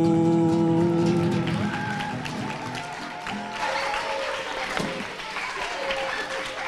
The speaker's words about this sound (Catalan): Tampoc cal que em feu la pilota, eh? Amb tant aplaudiment.